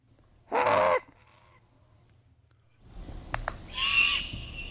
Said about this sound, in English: But let's play this juvenile great horned owl, Calvin, if you could.